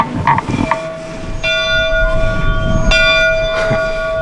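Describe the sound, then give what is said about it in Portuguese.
An old school bell in an old town's historic schoolhouse is rung, clanging several times, each strike leaving a long, ringing metallic tone that lingers and overlaps, loud, with no voices. “Será que o velho sino ainda funciona? Vou tocar.”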